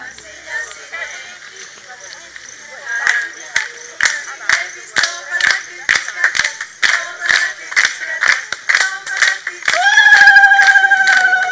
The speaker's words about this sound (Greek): Αυτές οι κραυγές είναι κραυγές καλώς ορίσματος και κραυγές ευχαριστίας. Θα τις ακούσετε αρκετές φορές.